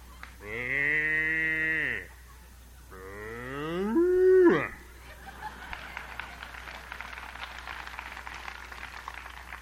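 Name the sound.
cows mooing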